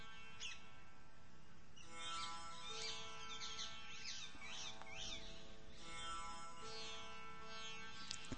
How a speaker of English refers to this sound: What do you hear? Voices of birds. Is only one type of bird or are there different birds' voices? Try to distinguish.